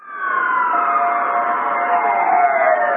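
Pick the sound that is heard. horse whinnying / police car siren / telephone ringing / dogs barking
police car siren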